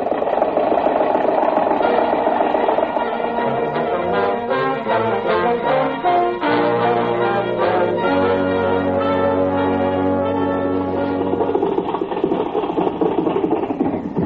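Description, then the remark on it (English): An old motor car engine runs steadily for the whole stretch, a loud, continuous rumbling chug with shifting whining tones and a faint ringing, bell-like quality layered over it. “Confound your stinking motor car.”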